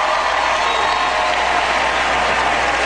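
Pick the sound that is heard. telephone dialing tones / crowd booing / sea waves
crowd booing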